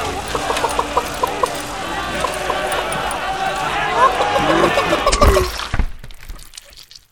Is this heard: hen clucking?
yes